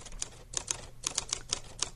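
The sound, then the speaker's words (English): Rapid, uneven clacking of typewriter keys, about nine sharp strikes in two seconds, fairly crisp with a faint low hum underneath and no voices. “Oh, it's a typewriter.”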